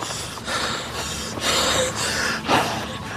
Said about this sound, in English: Gasping for breath, he slumps to the floor, removes his headscarf, and wipes his face with it.